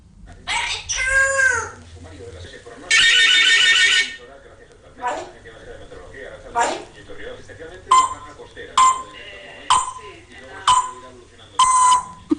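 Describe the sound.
A voice mimics a warbling telephone ring, then a buzzing burst, followed by a steady series of short, sharp beeps imitating radio time signals, all fairly loud, performed at a Radio Euskadi talent contest.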